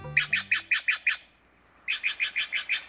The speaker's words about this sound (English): Hear this bird? It's a jay, and it's blue. But this is a Steller's jay, not a true blue jay with a capital B.